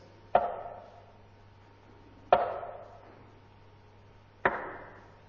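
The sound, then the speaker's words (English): Three heavy, sharp knocks on a door, evenly spaced about two seconds apart, each trailing off in a brief ringing decay over a faint low hum. No one speaks. “It is a persistent, again and again, knocking of Jesus, who wants to come into your life.”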